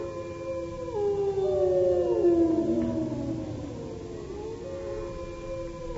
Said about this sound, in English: The wolves. Listen to them, the children of the night. What music they make.